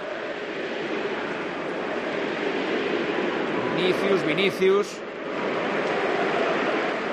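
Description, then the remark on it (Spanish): A stadium crowd at the Santiago Bernabéu, in the 20th minute of the match, roars steadily throughout, a dense wash of applause and cheering, with a short burst of voices chanting together about two-thirds of the way in before the roar continues. “Minuto 20 en el Santiago Bernabéu. El sonido era este.”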